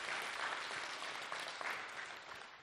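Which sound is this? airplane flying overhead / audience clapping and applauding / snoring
audience clapping and applauding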